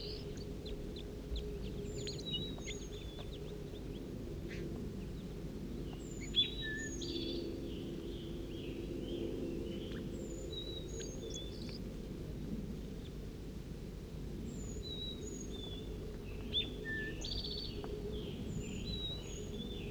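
Juvenile birds in a cherry tree give thin, high-pitched begging calls, short repeated chirps at irregular intervals throughout, over a steady low rumble with no talking.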